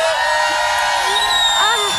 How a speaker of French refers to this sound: Alors, la règle numéro 1, un public de drag show, vous qui êtes en live, n'est ni poli ni discipliné. Il crie. Montre-moi comment tu cries, public.